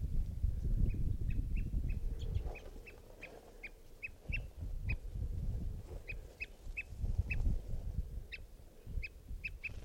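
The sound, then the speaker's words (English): An adult type 2 bird calls in a steady series of short, sharp, mid-high chip notes, often in quick pairs, repeated throughout over a low rumbling background. “And a type 2 bird adult was heard calling as well.”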